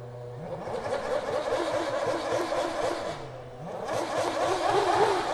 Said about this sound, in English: So you can hear one of the F1 cars, the Lotus, is playing a tune on its engine.